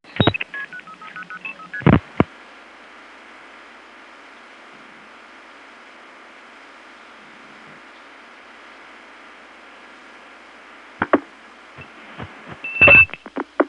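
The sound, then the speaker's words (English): Telephone trunk signaling while breaking into a ringing line, from the cut-through to an outgoing toll tandem in Hempstead, with a bell rung to signal the trunk: a quick run of stepped tones and sharp clicks, then a long stretch of steady line hiss, ending with more scattered clicks and a brief high tone. “Here is my first time breaking into a ringing line, starting from the cut through to my outgoing toll tandem Hempstead.”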